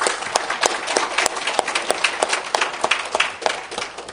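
A crowd applauds steadily to thank a woman for her hard work, many hands clapping in a dense, continuous wash with sharper individual claps popping out, sustained and fairly loud throughout without any voices.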